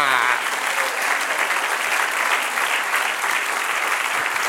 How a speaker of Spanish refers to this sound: Denle un aplauso. ¡Aleluya!